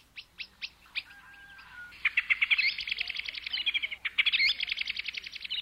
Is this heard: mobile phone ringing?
no